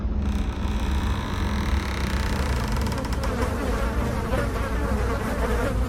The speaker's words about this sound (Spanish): salió una gruesa nube de moscas acompañada de un pestilente y nauseabundo olor.